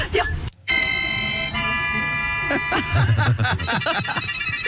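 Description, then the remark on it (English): A walrus plays a mouth organ, giving out wheezy, reedy chords that hold steady for a couple of seconds, then break into shorter, wavering blasts with low grunting breaths underneath. “They can also play the mouth organ if you put it in their mouth.”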